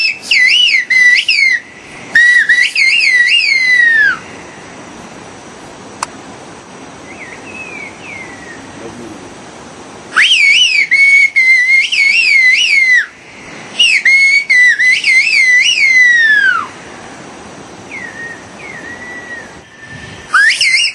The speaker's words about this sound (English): Yeah, so there's a community in Turkey, a mountainous region of Turkey. About 10,000 people use this language, which is described as a bird-like whistle.